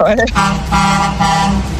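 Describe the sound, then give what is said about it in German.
A brief voice, then a car horn blares loudly in long sustained honks, with short breaks between them, continuing to the end. “wir müssen ganz viel hupen die ganze Zeit”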